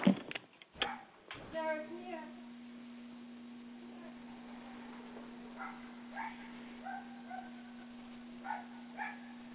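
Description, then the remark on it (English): A little dog outside, with a coyote around, barks a few sharp times, then fainter yips and whines come intermittently, all over a steady electrical hum. “My dog's outside and there's a coyote.”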